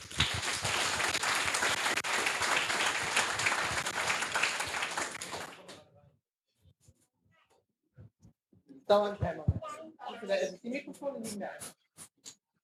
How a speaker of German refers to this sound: Ein Applaus für die Gruppe.